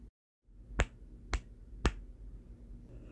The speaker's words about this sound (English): Holy shit, you've never spanked me this hard. Oh my god, did I make Daddy that mad?